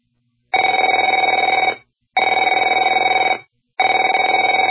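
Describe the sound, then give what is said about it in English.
A telephone rings three times in a steady rhythm, each loud, trilling bell burst lasting over a second with short silent pauses between. No voices are heard. “Afraid to answer it?”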